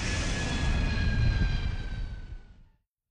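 A loud jet airplane engine roars during takeoff with a high whining tone over a deep rumble, holding steady for over two seconds before cutting off abruptly. No voices are heard.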